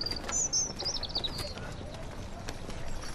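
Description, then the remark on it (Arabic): Donkey hooves clop along in an uneven, steady rhythm against a busy outdoor background, with a few high bird chirps early on and a faint murmur of voices, as the donkey is told to stop. “هي هي هي، توقف أيها الحمار.”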